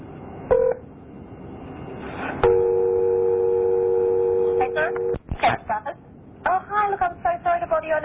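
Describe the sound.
A brief beep, then a long steady ringing tone over a phone line lasting a few seconds, on a call from Radio New Zealand in Auckland, cut off abruptly before voices begin talking.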